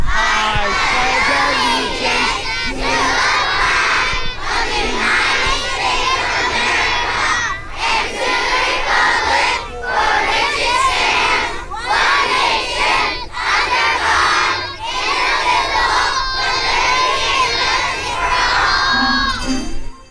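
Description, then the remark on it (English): A large group of schoolchildren at Old River Elementary School in Discovery Bay recite the flag salute together, right hands over their hearts, in loud, shouted unison, the chant moving in steady phrases with brief pauses between lines. “Here we go with the flag salute live from Discovery Bay at Old River Elementary School.”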